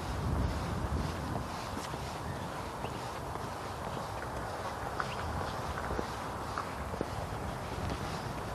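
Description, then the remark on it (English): Footsteps of someone walking outdoors among cars at an unhurried, steady pace, soft scuffing steps under a constant rush of wind and low rumbling noise, with no one speaking. “Walking and not talking. I'm trying not to get run over by cars”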